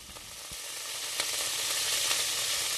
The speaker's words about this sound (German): Kindheitserinnerungen werden wach beim Geruch der gut gebräunten Bratkartoffeln, die in der gusseisernen Pfanne auf dem Herd brutzeln.